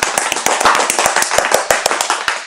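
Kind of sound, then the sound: crowd, applause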